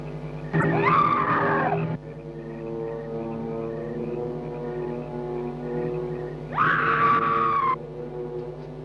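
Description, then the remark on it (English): A ghostly woman's scream rings out twice in an ancient cemetery, each a loud, shrill, wavering cry lasting about a second, separated by a long stretch of low, eerie droning hum. “it is the scream of the white ghost.”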